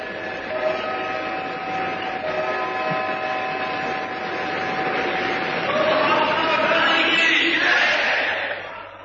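A large crowd roars and cheers continuously in tribute to Mahatma Gandhi, with sustained horn-like tones ringing through the din. The noise swells louder toward the end before easing off.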